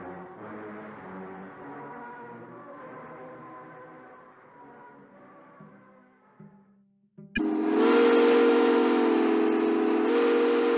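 A long, deep steam whistle on the powerhouse at Magnitogorsk, sounding 6 o'clock for the workers, holds a steady, hollow tone, then swells into a much louder, brighter blast laced with hissing steam that keeps sounding without a break.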